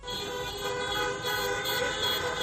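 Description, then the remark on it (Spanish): Many car horns honk at once at a vehicle protest by Deportivo de La Coruña supporters' clubs in A Coruña, around 400 vehicles including a concrete mixer, in a sustained, overlapping blare, with steady tonal bands holding through the whole stretch and no pauses, loud and continuous with no talking. “Así suena evidentemente esta concentración, porque cada uno va con su coche.”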